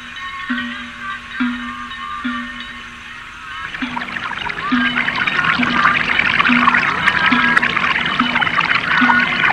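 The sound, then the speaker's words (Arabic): Water gushes and splashes steadily from a spring, a broad hissing rush that swells after a few seconds, while a soft low pulse repeats underneath at an even rhythm. “إنها عين ماء يا أبا طالب، إنها معجزة.”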